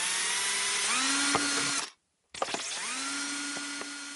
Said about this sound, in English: Plastic lemonade bottles are very, very slippery, so you want to be particularly careful that your fingers aren't anywhere near where you're drilling. OK, I shall step back and let you drill in that case. So here we go with the first hole.